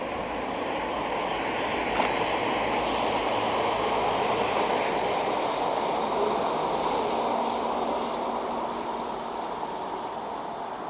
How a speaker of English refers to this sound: We've got a train coming as well. Let's go and see if we can call the train coming past. A quick walk back. So there's the train going.